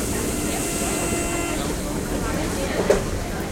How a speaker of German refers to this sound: Der Zug bremst! Der nächste Halt ist Schloss Versailles.